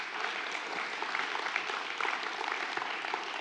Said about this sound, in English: So y'all give the Lord a hand clap and thank Him for that right there.